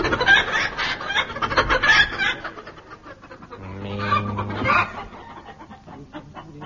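rooster clucking

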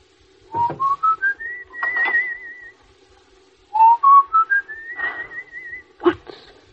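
person whistling a tune

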